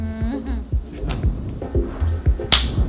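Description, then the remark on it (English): A single sharp, bright crack of a whip, called the Trump whip, snaps near the end, preceded by a voice and a series of dull, rhythmic low thumps. “Oh, the Trump whip.”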